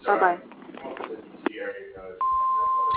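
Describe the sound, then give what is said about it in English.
Over a muffled, phone-quality voice, the answering machine of a billiards bar sounds its beep tone: a single loud, steady pitched tone that holds unbroken through the end. “And at the moment, we're away from the phone, so at the tone, please leave a message, and we'll get back to you.”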